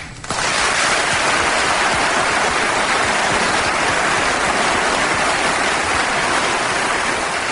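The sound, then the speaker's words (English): An audience breaks into sustained applause after a brief quiet moment, a dense, steady wash of clapping that stays loud and even throughout, with no voices heard. “Yeah, that does deserve applause, and it deserves us to remind ourselves that we should not take them for granted.”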